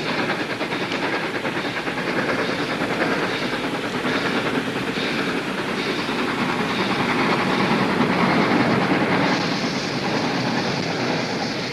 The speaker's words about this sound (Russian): когда показывается загадочный паровоз с одним вагоном.